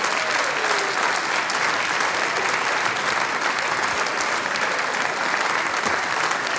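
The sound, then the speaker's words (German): An audience claps steadily for several seconds for a performer called back onto the stage, a dense, even wash of many hands with no pauses and no voices rising above it. “Auch er hat sich den Applaus noch einmal verdient.”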